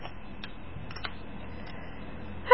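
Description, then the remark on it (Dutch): A paper lid being peeled off a strawberry-flavoured snack cup: faint small crinkles and clicks, then a brief, louder, scratchy tearing sound right at the end. “Halen we het papiertje eraf.”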